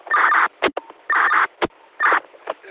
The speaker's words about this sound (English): borrowing someone else's radio who's got that annoying MDC chirp on.